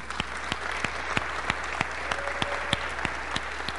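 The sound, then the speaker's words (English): An audience at a meeting claps steadily in thanks to the previous nominating committee and in favor of dismissing it, a dense wash of many hands with a few sharper claps standing out at a fairly even beat. No one speaks. “So all in favor of dismissing them, keep clapping.”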